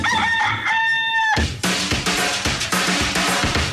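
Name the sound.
rooster crowing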